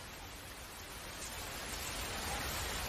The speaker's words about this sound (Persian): خیلی شدیده. این وقتی سال همیشه بارون خیلی زیاده. خیلی بده.